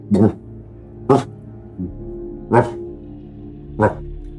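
A dog barks four times at uneven intervals, loud, with a softer short yelp between the second and third barks and no one talking.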